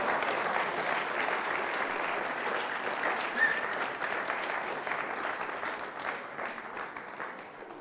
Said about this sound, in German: Ein Applaus bitte für das Abdeckteam hier.